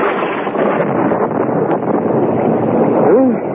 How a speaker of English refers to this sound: Listen to that thunder. Bad storm. I hope the roof won't leak. It's this wind. It gets in underneath the roof tiles.